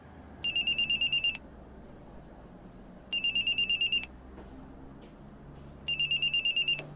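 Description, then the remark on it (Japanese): A telephone rings in three bursts of rapid electronic trilling, each lasting about a second with pauses between, clear over a quiet low hum; it is a call from a fraudster posing as a tax office official about a fake refund. “しばらくして、犯人から電話がありました。”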